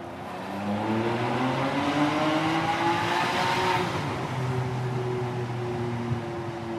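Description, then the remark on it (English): A car engine revs up loudly as it accelerates, its rising harmonic whine climbing steadily for several seconds before easing into a sustained, throaty drone. “I love that sound. This car is make all your rock and roll fantasies come true.”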